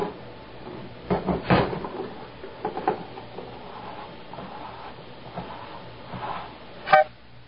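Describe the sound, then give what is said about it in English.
While a can's barcode is being scanned, a self-checkout scanner sounds a single short, blaring car-horn-like error beep near the end, after an accidentally pressed key made it reject the barcode, following several soft clunks and handling noises. No one speaks. “I think we got the car horn beep because I had accidentally pressed another key or something, and it didn't think it was a valid barcode.”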